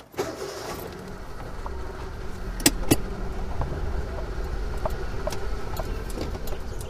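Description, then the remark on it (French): A steady low rumble of car engines from a long queue of mostly very new cars idling and creeping along right alongside, one after another, with a couple of sharp clicks partway through and no one speaking. “Juste à côté, il commence une longue, longue queue de voitures.”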